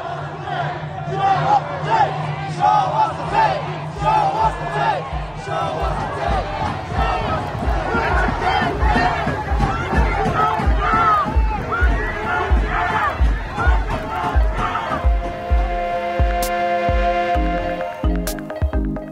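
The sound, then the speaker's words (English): A crowd of hundreds marches to the Compton Sheriff's Station in Los Angeles on Sunday, chanting in unison to demand justice for Andres Guardado, voices loud with rhythmic thumps of footsteps or drums, the chanting continuing steadily before shifting into a denser, sustained roar near the end. “in Los Angeles on Sunday, a crowd of hundreds marched to the Compton Sheriff's Station to demand justice for Andres Guardado.”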